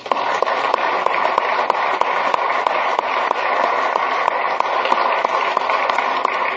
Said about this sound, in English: The doctor of the day offers his services on a volunteer basis for those in the legislature and those in the Capitol, and we appreciate that, and please give him a round of applause.